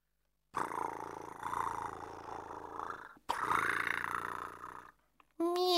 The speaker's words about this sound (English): Meow. Oh, Otto, you can't have lunch now. It's 11:30.